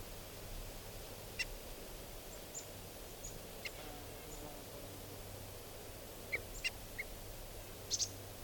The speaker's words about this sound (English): And the decoys are giving alarm calls. This is the alarm of 395. There's an osprey flying around here. These are the alarm calls of the decoys.